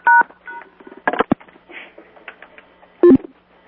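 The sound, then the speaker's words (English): Someone switches phones mid-call during a meeting: a couple of short touch-tone keypad beeps, a burst of clicks and handling rustle, then another pair of beeps near the end. No one speaks. “Sorry, yeah, I just had to switch phones.”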